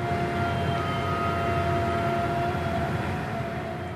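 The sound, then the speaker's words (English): A steady, loud industrial drone from an oil and gas drill rig in the Barnett Shale, Texas, with low rumbling machinery and several sustained tonal whines layered on top, continuous and unchanging with no voices. “And imagine you live right next door to this drill rig.”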